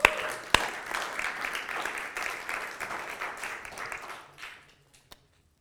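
A crowd bursts into applause, a dense, steady patter of many hands clapping for about four seconds before it thins and fades out, with a sharp knock near the start and another at the very end.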